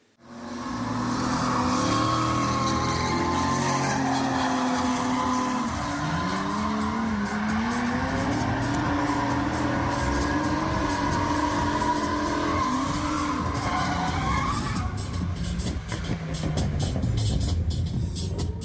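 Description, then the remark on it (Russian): A car drifts at the Madzhunai drift park with a loud, continuous engine roar, its pitch rising and falling as the tires squeal and skid throughout, with no one speaking. “Поскольку дрифт стал молодежной дисциплиной современного автоспорта, в дрифт-парке Маджунай, помимо прочих зачетов, придумали самый понятный в этом возрасте.”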